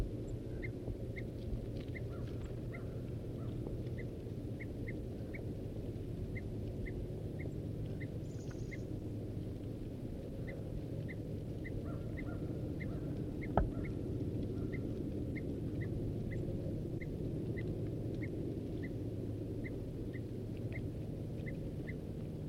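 A male bird's alarm calls: short, high chip notes repeated steadily about once a second over a constant low rumble of background noise, with one sharp click midway.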